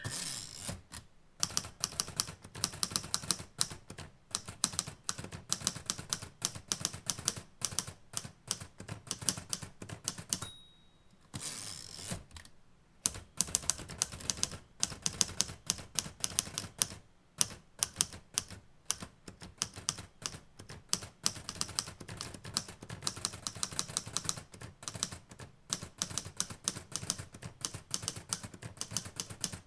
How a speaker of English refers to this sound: And I'm just going to finish typing up these notes.